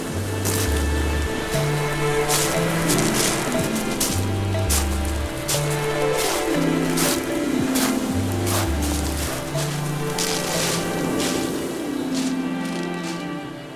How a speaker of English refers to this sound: We wandered down to Brighton seafront to hear what was going on.